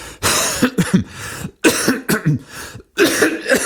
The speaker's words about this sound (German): Ich lasse einfach mal die Huster drin. So, wisst ihr wenigstens, dass ich auch wirklich krank bin.